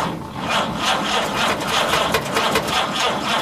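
A truck engine is being cranked with the key, a steady rhythmic grinding churn repeating for a few seconds as it fails to start. It is loud, with no voices.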